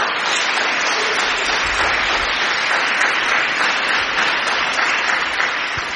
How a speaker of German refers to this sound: Und ich glaube, das ist schon ein Applaus wert.